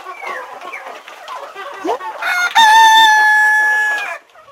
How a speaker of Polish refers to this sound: no bo to wiadomo, to nie są takie zwykłe kurki, tylko każda jest inna. Każda, no to są jakieś rasy, które mają tam i czubki, i nóżki takie, i kolory.